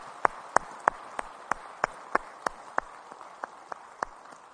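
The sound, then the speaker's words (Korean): A church audience claps together, applauding the efforts of small-church pastors, in a steady, even beat of sharp claps, roughly three per second, over a soft wash of scattered applause. No one speaks. “한번 우리 그분들에게 수고하신다고 박수 한번 보내주세요.”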